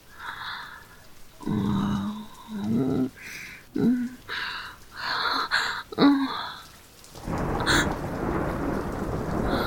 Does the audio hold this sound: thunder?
yes